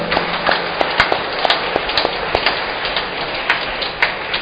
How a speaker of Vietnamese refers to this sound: Xin được cùng với cộng đoàn phụng vụ hôm nay, chúng ta chúc mừng giáo họ Vinh Sơn và những ai nhận thánh Vinh Sơn làm quan thầy bằng một tràng vỗ tay thật lớn.